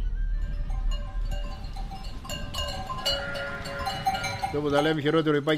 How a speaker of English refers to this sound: we are driving towards his farm where he has his sheep and cows.